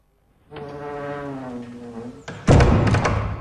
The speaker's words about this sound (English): Sir Thomas closes the door, leaving them on their own.